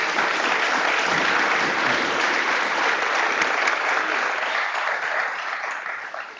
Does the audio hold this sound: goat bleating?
no